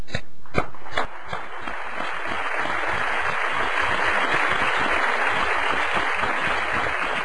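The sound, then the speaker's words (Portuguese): Sustained applause from a crowd of journalists, given in place of a silence, a dense steady patter of many hands clapping at an even loudness throughout, with a couple of sharper claps standing out at the start and no one speaking. “Em vez do silêncio, o nosso aplauso.”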